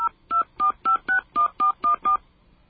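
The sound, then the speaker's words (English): Nine quick touch-tone beeps from a phone keypad as a phone number is entered at an automated phone line's prompt, evenly spaced in a steady rhythm, each a short dual-pitched electronic tone, clear with no talking. “Please enter the phone number you are calling about. Okay, we just did this, but let's do it again.”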